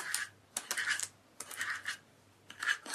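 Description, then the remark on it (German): Repeated dry scratching on crinkly parchment paper, coming in several short bursts with brief pauses between them, fairly clear against a faint low hum. “Bruno kratzt auf dem Pergamentpapier herum.”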